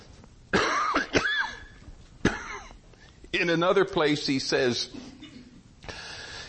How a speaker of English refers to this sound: In another place, he says, I coughed and the thought went out. You ever done that?